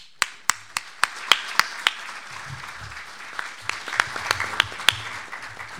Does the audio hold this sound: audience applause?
yes